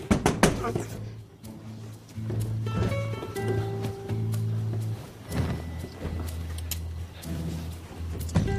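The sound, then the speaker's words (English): A man standing outside knocks on a woman's window: several sharp knocks tap on the glass in irregular bursts, crisp, over a steady backdrop of soft sustained music. “knocks on her window.”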